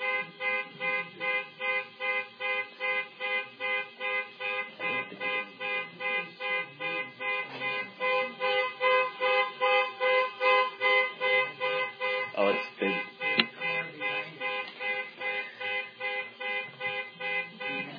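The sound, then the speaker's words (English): A car horn honks over and over in a steady, rapid rhythm, its blaring tone pulsing for the whole stretch at a fairly loud level, right outside a window. “Minor delay because of a car honking right outside the window.”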